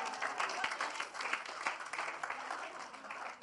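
audience clapping

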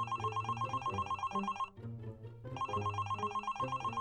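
telephone ringing

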